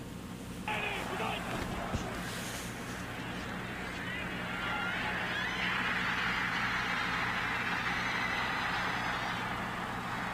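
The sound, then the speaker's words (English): A huge stadium crowd roars continuously after a game-winning overtime touchdown, Travis Kelce's 8-yard pass to Patrick Mahomes, as heard on the CBS broadcast; a dense wall of cheering that holds steady and swells slightly louder midway, with no commentary over it. “You hear the roar of the crowd, but not really much else in terms of commentary there.”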